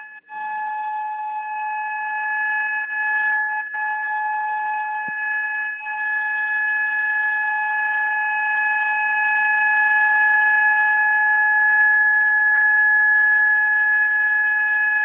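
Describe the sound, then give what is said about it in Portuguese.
A siren sounds as one loud, unbroken tone that holds a steady pitch for the whole stretch, without rising or falling. There is no talking over it. “É uma zoadinha que você está ouvindo? É a sirene aqui”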